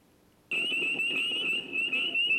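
A dense chorus of peeping chorus frogs starts abruptly and fills the air with a loud, shrill, continuous high-pitched ringing, many calls blurring together, with no voices.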